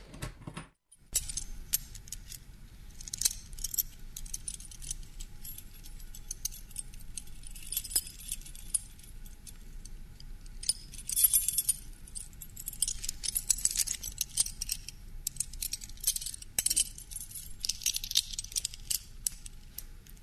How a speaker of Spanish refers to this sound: Hem escoltat de dreta i esquerra les claus.